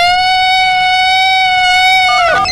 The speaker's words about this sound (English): So, here's my theory. If we get everybody that's listening to the radio station right now to roll down the windows of their car, turn their radios up, and then I'm going to play the Bigfoot sound, and we'll wait and see if Bigfoot comes out anywhere.